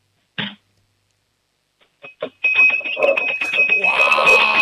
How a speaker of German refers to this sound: wir brauchen ein Trinkglas und einen Löffel und dann machen wir mal ein bisschen Lärm, wir zwei Hübschen, hätte ich gesagt, oder?